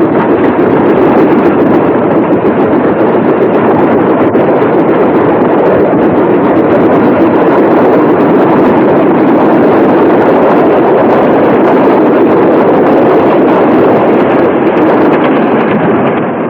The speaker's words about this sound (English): As the train pulls out of the station, Iris nods and waves.